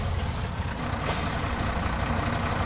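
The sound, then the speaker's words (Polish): Two fire engines pulling up: a steady, heavy diesel rumble with a short, sharp hiss of air brakes about midway through. No sirens and no talking. “Dwa wozy strażackie przyjechały.”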